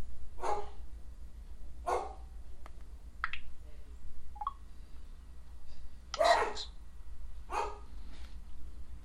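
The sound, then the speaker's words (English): Several sharp dog barks ring out at irregular intervals, some spaced a couple of seconds apart, over a low steady hum. “Hang on, I'm going to shut the door here so the dogs”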